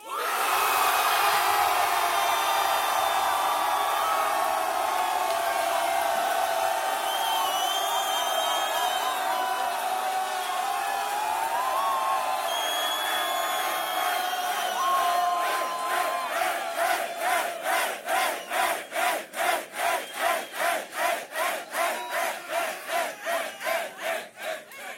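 A large crowd in St. Petersburg roars, cheers and shouts loudly and without pause, its noise measured at 117.1 decibels in a crowd vote, then the noise turns into a fast, steady rhythmic pulsing, like unison clapping or chanting, for the final ten seconds.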